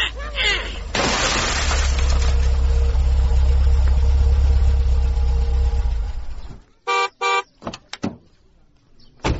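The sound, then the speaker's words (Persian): A sudden loud crash of car window glass shattering after a boy throws a stone at it, followed by several seconds of crackling debris over a low engine rumble, then brief shouting voices. “او بچه ها این شیشه موتر مرا کی مایده کده؟”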